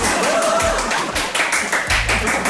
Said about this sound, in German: Und jetzt brandet hier wieder Applaus auf.